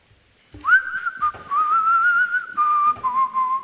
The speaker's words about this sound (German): Wir schauen in die Luft und pfeifen.